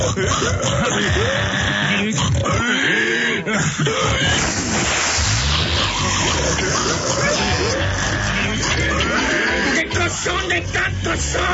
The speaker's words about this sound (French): Mais c'est des milliers! C'est des tas de cochons sauvages! Il en arrive partout là!